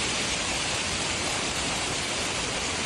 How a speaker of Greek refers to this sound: ανέβαζαν οι κάτοικοι της Βόρειας Ελλάδας τα βίντεο με την έντονη χαλαζόπτωση, τις καταιγίδες και τους κεραυνούς